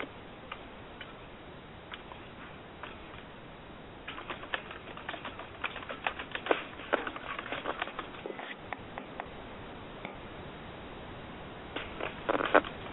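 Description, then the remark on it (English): Keyboard typing into a chat room: a run of quick, irregular clicks and taps, sparse at first, then denser and louder in bursts through the middle, with a few more keystrokes at the end. No one speaks. “I'm typing that into the chat room now.”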